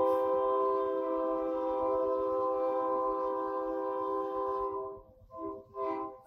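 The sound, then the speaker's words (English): A loud, sustained train horn blares for about five seconds over the steady rumble and clatter of a passing train, then cuts off, leaving rail noise and brief muffled sounds. “Yeah, my dad was in the railroad. So I love that sound.”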